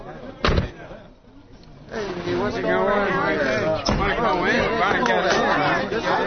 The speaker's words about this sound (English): There's a crowd out front.